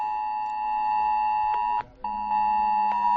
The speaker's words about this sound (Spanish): Este foi o son que emitiron miles de teléfonos móviles na área da Coruña esta mañá como parte do simulacro levado a cabo para facer fronte a un suposto accidente químico na planta petroleira de Bens.